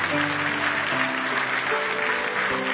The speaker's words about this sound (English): Give the Lord a big hand clap of praise.